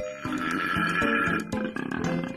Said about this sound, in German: So tief klingen männliche Koalas in Australien, wenn sie Weibchen beeindrucken wollen. Beim Einatmen klingt es wie ein Esel, beim Ausatmen wie Rülpsen nach zu viel Sprudelwasser.